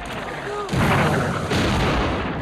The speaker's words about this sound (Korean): 한편 같은 날 밤 우세한 대포를 앞세운 프랑스군의 공격이 다시 이어지고 영국군은 전멸할 위기에 처한다.